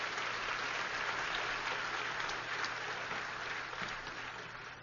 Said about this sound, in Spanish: Así que démosle un aplauso grande